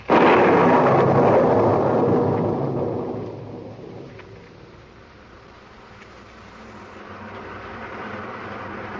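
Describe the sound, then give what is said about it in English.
A heavy crack of thunder rolls in loud, rumbling and fading over several seconds, leaving a steady hiss of rain falling on a wet, glistening street that continues on its own. “Down through the rain, down through the wet, glistening street he came,”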